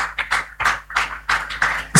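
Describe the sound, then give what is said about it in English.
Scattered applause from a small group doing an exercise of clapping for the income they want to make in the new week, heard as a series of uneven, bright clapping bursts that rise and fall over a couple of seconds, with no talking. “Okay, some people are clapping 100,000 naira.”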